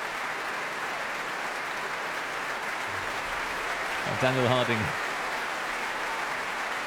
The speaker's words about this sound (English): Well, here he is back at the front of the stage here at the Royal Albert Hall. Cheers from the audience. Applause, tapping of bows from the members of the Mahler Chamber Orchestra.